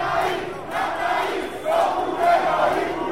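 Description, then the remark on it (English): A large crowd of protesters outside the Greek Parliament yells and shouts together in a loud, continuous roar, yelling "Burn down the whorehouse," with the massed voices swelling stronger over the last couple of seconds. “Many protested outside Parliament and yelled, "Burn down the whorehouse."”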